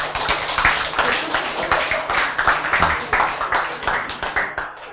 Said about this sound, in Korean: 자, 해보자. 와, 박수.